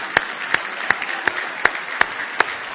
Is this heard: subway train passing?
no